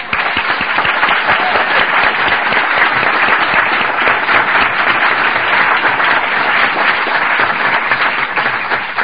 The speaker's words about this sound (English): By the way, we all need to give a round of applause for Allison.